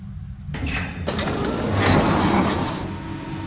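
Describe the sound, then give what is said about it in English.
The mechanical door of an outfitting station under the south part of the outer wall slides shut with a rumbling, hissing grind that swells over a few seconds, with a couple of sharp clanks before the noise cuts off as it locks. “The door locks behind us.”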